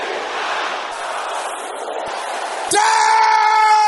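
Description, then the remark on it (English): A large audience shouts a prayer together in a loud roar. The noisy crowd sound swells into a sustained unison cry near the end, many voices holding one pitched note. “Everybody together now.”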